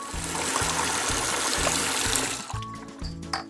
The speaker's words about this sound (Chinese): 忘了关灯，水龙头也没有关紧。 哥哥，你没关灯，水龙头也没关好。